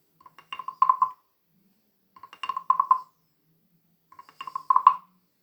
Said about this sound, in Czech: Byla to žába, drhlo.